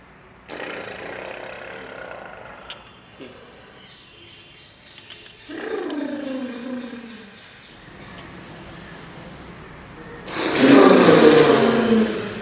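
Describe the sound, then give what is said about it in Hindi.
A voice imitates a balloon deflating in three breathy, hissing bursts of air, one carrying a falling voiced squeal, with the final rush of hiss the loudest, made while breathing out and emptying the belly of air in a breathing game. “जैसे जैसे हम हवा को निकाल रहे वैसे हम अपने पेट को खाली करेंगे और साथ साथ एक गुब्बारे के पचकने की आवाज बनाएंगे।”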